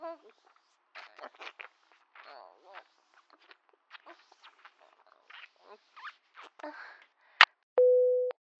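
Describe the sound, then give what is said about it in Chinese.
Soft, indistinct murmuring and rustling give way to a sharp click as the phone is accidentally touched and the call hangs up, then a steady, loud telephone busy tone begins and continues to the end. “喂，老公，刚才不小心碰到电话，结果挂断了。”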